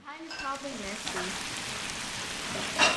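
Meat sizzles steadily on a hot grill, a dense crackling hiss throughout with a brief louder pop near the end, while voices chatter faintly nearby at the start.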